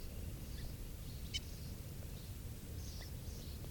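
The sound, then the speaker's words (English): A bird, bird 395, gives a handful of short, sharp alarm calls at a hawk at 6:52 a.m., at irregular intervals and thin, over a steady low rumble of outdoor background noise. “There's a hawk here, and this is bird 395 giving alarm calls.”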